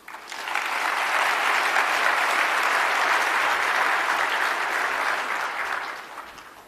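An audience in Africa claps steadily for several seconds as a speaker takes the stage to give a talk, a dense, even wash of many hands that swells quickly, holds at a constant level, then fades out near the end. No one speaks over it.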